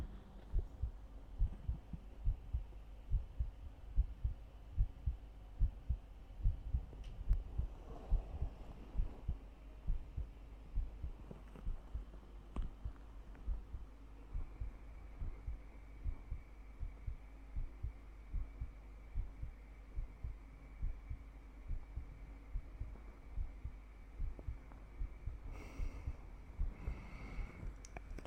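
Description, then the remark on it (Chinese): A muffled human heartbeat thumps steadily and somewhat quickly for the whole stretch, low and deep, with faint rustling and a brief sniff in the background. “听到我的心跳了吗？”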